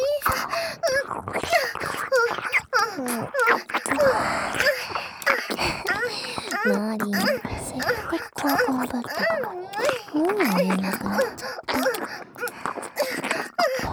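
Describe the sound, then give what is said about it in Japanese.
A person cries in a wavering, moaning voice, the sobbing pitch rising and falling through sustained wails, mixed with choked speech throughout. “マジ泣いてたの。”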